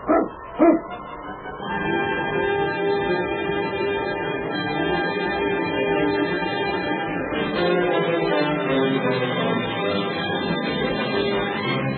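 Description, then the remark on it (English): A Mounties' sled dog team barks as the dogs are urged to get up and go: two sharp loud yelps up front, then a steady, dense chorus of barking and whining from the pack carrying on throughout, with no talking. “Get the dogs up, King. On, King!”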